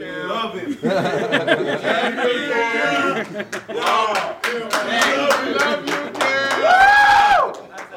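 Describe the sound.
Panthers football players cheer and whoop in a locker room for Cam Newton as he answers questions, with sharp claps and slaps scattered throughout, some laughter, and a loud rising shout near the end.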